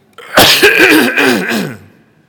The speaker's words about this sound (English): Let me just cough really good, okay?